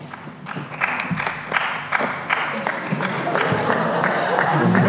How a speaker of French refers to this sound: La Russie qui se fait applaudir peut-être par 2-3 délégations. Merci délégation de la Russie.